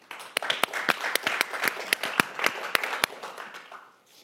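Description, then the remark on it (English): Scattered audience applause during a radio recording, a modest group clapping in answer to a request to applaud if they have ever had a miscarriage, with sharp individual claps standing out over a dense patter, steady for about three seconds before thinning out and fading. “Applaud if you've ever had a miscarriage.”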